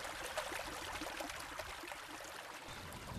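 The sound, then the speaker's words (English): A river at Culdaff flows past the site of a 6th-century monastic settlement with a steady, soft rushing and hiss of moving water, continuous and even throughout, heard alone with no voices. “The river flows right past it.”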